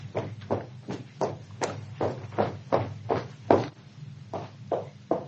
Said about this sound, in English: Curious. Now, why should those footsteps be so regularly irregular? Boom, boom, boom, boom, boom, boom, boom, boom, boom, boom, boom. Always the same rhythm. Oh, that's odd. That's distinctly odd.